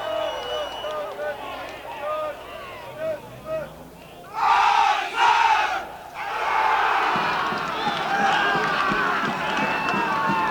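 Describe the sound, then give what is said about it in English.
A platoon of US Marine recruits at Marine Corps Recruit Depot San Diego, on being dismissed, bursts into a loud, rousing collective cheer, with two sharp shouted peaks followed by sustained crowd yelling and noisy hubbub that continues to the end. “So it ended, with your platoon's final rousing cheer, with your drill instructor's firm handshake.”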